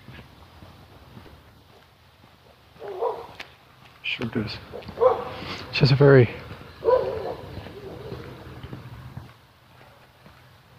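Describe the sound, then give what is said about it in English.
A Scottish terrier up ahead outdoors gives a few short, sharp barks, spaced irregularly across a few seconds, while a person talks over a low steady hum. “I think this is my friend with the Scotty dog up ahead.”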